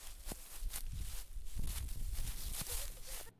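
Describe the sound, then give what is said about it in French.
Steady footsteps of visitors crunch through dry fallen autumn leaves in an arboretum park, each step a broad rustling crackle, fairly loud, with no voices. “Nous sommes actuellement en automne, les feuilles commencent à tomber et craquent sous les pas des visiteurs.”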